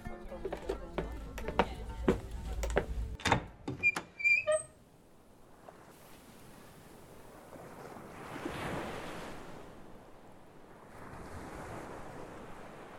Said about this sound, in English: The boat rocked lightly back and forth against the soft waves of the ocean.